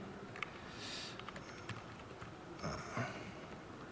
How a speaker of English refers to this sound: I'm sorry about the typing.